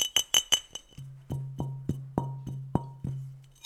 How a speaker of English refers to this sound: A glass bottle.